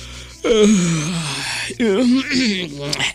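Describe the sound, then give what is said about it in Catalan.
A voice imitates a wolf's big, drawn-out yawn: a loud moaning sound sliding down in pitch, then a brief break and a second groaning stretch trailing off. “I un badall.”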